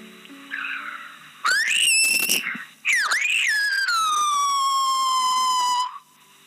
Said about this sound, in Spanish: Ha sido precioso que este silbo gomero haya atravesado norte, sur, este y oeste de nuestro país.